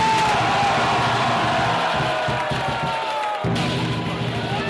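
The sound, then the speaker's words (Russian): A huge crowd of tens of thousands roars and shouts in a dense, continuous wall of noise during a fire dragon dance, with voices blending into a loud babble that dips briefly before surging back. “Под крики десятков тысяч собравшихся огненный дракон преследует жемчужины, которые также состоят из благовоний и символизируют мудрость.”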